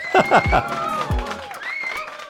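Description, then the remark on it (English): A busy stadium crowd roars steadily in a licensed library stadium recording, with shouts and sliding whistle-like calls rising over a dense, continuous wash of cheering voices. “We have licensed library sound effects from stadium recordings from, you know, 60,000, 30,000, 20,000, 5,000, maybe even just 300.”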